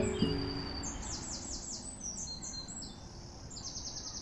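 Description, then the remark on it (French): High, rapid bird chirps repeat in short bursts over a steady low rumble of city traffic, the birdsong clear while the city hum fills the background. “Les oiseaux, les voitures, le béton, les arbres.”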